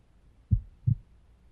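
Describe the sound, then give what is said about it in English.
Two soft, low-pitched thumps of a human heartbeat, the classic lub-dub pair, heard with a head placed on a person's chest, against a quiet, muffled background with no talking. “I'm trying to keep my heartbeat steady because, you know, never really done this before.”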